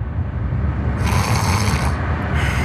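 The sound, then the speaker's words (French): A person snores loudly, a deep rattling rumble that runs throughout, with a harsher, breathy rasp rising over it midway and again near the end, while on the way to work. No one speaks. “Écoutez, ça, c'est moi en train de ronfler sur le chemin du boulot.”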